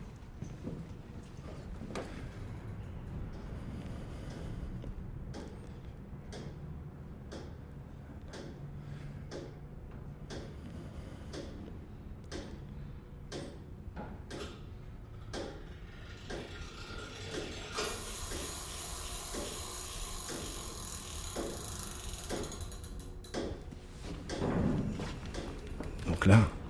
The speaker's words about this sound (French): Donc là, vous entendez que l'horloge. Vous avez le tic-tac qui bat la seconde. Et là, tac, toutes les 20 secondes, c'est le mouvement qui s'échappe. La force qui s'échappe. Vous avez entendu le clic ?